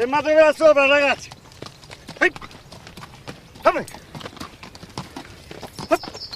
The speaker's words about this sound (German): Im Laufschritt nähert sich von hinten ein Mann mit einem verschwitzten Pferd am Zügel.